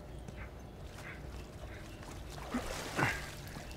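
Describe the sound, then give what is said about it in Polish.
Water trickles and gurgles steadily in an echoing tunnel, a soft continuous wash with a few brighter splashes and knocks near the end. “Nic tu nie ma, woda tylko tu jest.”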